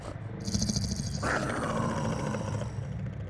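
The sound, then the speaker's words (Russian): A summoned Onyx Wolf growls in a deep, continuous rumble, fairly loud, with a sharper snarling rise partway through before the low growl carries on. “Это же... Ониксовый волк!”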